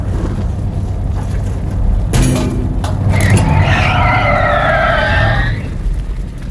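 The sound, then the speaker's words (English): A car engine rumbles steadily, then tires let out a loud, drawn-out screech for about two seconds as the vehicle skids to a stop, with no voices present. “I'm gonna stop the car.”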